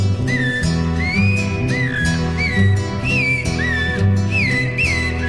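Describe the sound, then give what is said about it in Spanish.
Clear, rising and looping song phrases of a zorzal thrush repeat about once a second, bright, layered over steady instrumental music with a full low accompaniment. “Canta el zorzal.”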